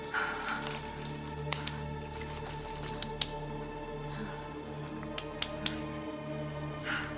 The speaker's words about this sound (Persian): ماگرا پوسته روی بدن جنین رو با چاقو پاره میکنه